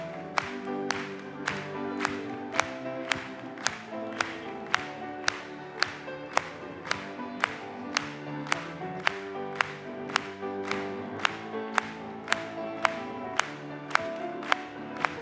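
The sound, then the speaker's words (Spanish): Steady rhythmic clapping in unison from an audience during a worship hymn, sharp even beats about twice per second, carried over a sustained musical backdrop of held tones, with no voices. “Vamos a aplaudirle.”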